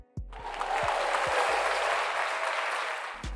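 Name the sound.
applause sound effect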